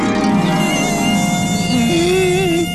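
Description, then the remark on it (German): A loud, continuous mosquito whine drones for the whole stretch at home while the mosquito is being hunted, its thin buzzing pitch wavering and rising slightly, with no talking over it. “Du hässliche Mücke.”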